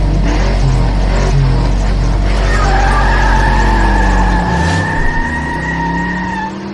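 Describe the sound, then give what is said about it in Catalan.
A 1967 Ford Mustang's engine roars loudly as it accelerates hard, joined partway through by a sustained high-pitched squeal of tires skidding on the road. “Vinga, i fot-li gas!”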